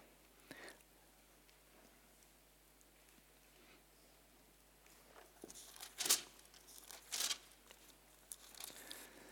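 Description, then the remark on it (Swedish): Pages of a Bible rustle softly as someone leafs through it to Psalm 40, with two sharper flips standing out near the end. Quiet, with no one talking. “Vi kan bläddra dit.”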